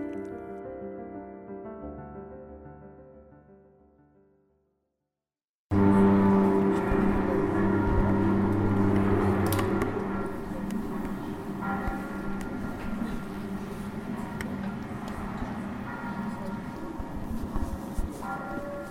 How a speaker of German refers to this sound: Glocken läuten und Schiffhupen versetzen den Zuschauer in ein urbanes Umfeld.